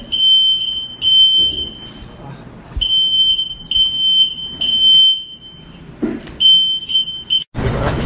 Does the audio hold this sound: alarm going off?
yes